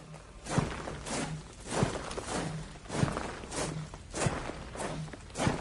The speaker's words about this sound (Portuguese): Presumo que sejam as pessoas a vir para a rua a gritar liberdade, as marchas, o som dos soldados a marchar.